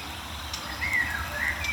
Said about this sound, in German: Neben mir ist auch eine aufgeregte Mönchsgrasmücke. Mild aufgeregt, würde ich sagen.